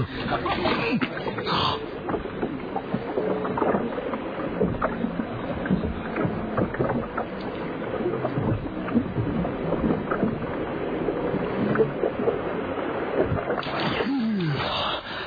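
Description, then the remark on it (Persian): A boat motors steadily across the water at Peljani island, its engine rumble mixing with splashing and wind noise for the whole stretch, with a faint voice briefly underneath. “برو زیر آب قایقه.”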